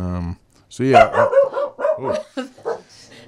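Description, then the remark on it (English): A dog barks, starting with one drawn-out, tonal bark and following with a quick run of sharp, yelping barks in uneven bursts. “There's Harry. Maybe my totem is a dog.”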